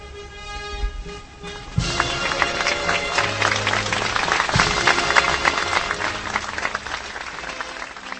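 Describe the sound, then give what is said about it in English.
Hundreds of guests and onlookers outside Prague's main station burst into sustained applause as the white veil falls off a restored, larger-than-life bronze statue at its unveiling; dense clapping swells after a brief pause and continues steadily, with faint tonal sounds and murmurs underneath. “Hundreds of guests and onlookers applauded as the white veil fell off the larger-than-life bronze statue outside Prague's main station, formerly named after the US president.”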